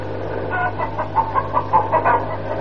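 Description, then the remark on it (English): A chicken, flying high in the air, clucks in a quick series of short, choppy calls, about a dozen in under three seconds, clear over a steady low hum. “That chicken's flying pretty high.”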